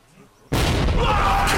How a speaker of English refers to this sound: The head explodes in a big ball of flames. Black powder, Jack.